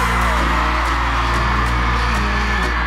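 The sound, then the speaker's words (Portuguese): A live audience, asked to raise their hands and shout, yells and cheers in a sustained, dense roar, with scattered whoops rising above the crowd noise throughout, over a steady low hum from the venue. “Quem gostou, levanta a mão e dá um grito.”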